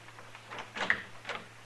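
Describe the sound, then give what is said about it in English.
A door is opened with a short cluster of clicks and rattles from the latch, then a softer knock of wood a moment later, over a faint low hum. “Open the door, Dillon.”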